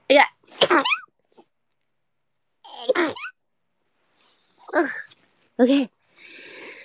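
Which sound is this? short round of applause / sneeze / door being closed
sneeze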